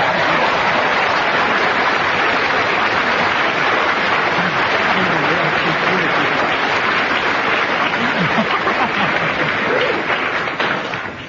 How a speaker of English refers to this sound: Kenneth Williams, a well-deserved round of applause.